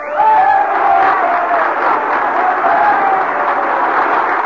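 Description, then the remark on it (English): A large crowd of miners in a theater claps and cheers loudly and continuously after a song, a dense roar of applause with shouting voices rising through it from start to finish. “She touched her lips with her hands, and with tears in their eyes, the miners thundered their applause.”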